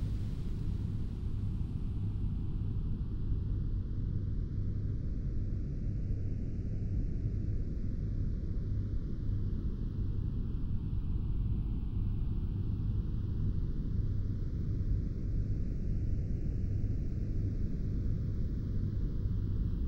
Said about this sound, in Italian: Mentre ti rilassi sempre di più in questo tempo solo per te, i suoni cambiano da onde dell'oceano al cosiddetto rumore rosa. Ascoltalo adesso.